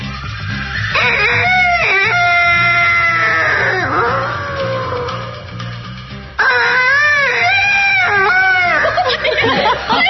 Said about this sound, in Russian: Слышите, петух! И какой горластый! Да уж, в городе такого не услышишь! Где уж там? Должна заметить, что деревня, которую мы проезжаем, вообще славится своими петухами.